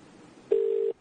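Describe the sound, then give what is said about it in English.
A telephone rings on the line while calling back during a prank call: one steady, buzzing mid-pitched ringback tone lasting under half a second, clearly louder than the faint background hiss, with no one speaking. “Call her back.”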